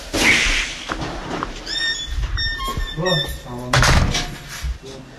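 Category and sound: household object, door being closed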